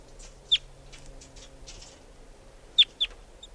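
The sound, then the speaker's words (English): Sharp, high chittering notes from a wild bird sitting on top of a cage: one quick burst, a pause, then two more close together, over faint softer chirps and a low steady hum. “And chitter by the wild bird.”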